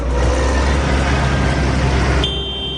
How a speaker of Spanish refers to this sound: Sí, ya lo estás escuchando y lo estarás escuchando si estás en las cercanías de Madrid, incluso en la capital de España. Es el rugido del motor y el pitido ese estridente de los tractores